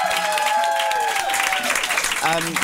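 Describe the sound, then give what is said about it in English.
A crowd breaks into steady, loud applause, dense clapping that holds for the whole moment, with whoops and raised voices ringing through it. “And finally, a big round of applause to you, the Gene Divas, because we love you so much.”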